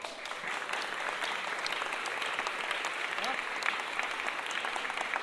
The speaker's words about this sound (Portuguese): Aê, beleza! Esse aplauso foi bonito, hein?